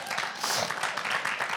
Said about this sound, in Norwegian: så det enda større grunn til å klappe her.